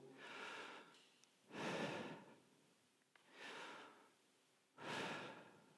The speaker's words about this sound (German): Wenn ihr euch hinsetzt und in Ruhe atmet und laut atmet, dann kann es sein, dass ihr den Namen Gottes hört. Denn wenn man laut atmet, klingt es ungefähr so.